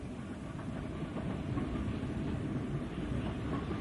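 A first-class sleeper train rolls steadily along the tracks, a continuous low rumble with faint rhythmic clatter from the wheels, heard from inside a compartment, with no voices.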